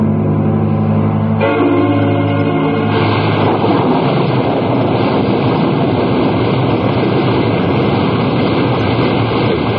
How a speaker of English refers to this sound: No, let's stay. I love the wildness of the storm over the ocean. Yeah, it's nice. I think this one will blow over pretty soon.